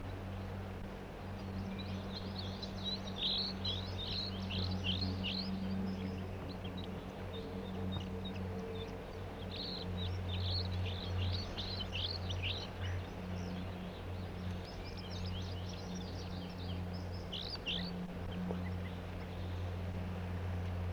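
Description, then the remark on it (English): A flock of three crossbills, including at least one juvenile, sings typical flight song in repeated clusters of quick, high chirping notes, pausing between bursts, over a steady low engine-like hum that runs throughout. “And the other two birds are singing as well here, giving the typical flight song.”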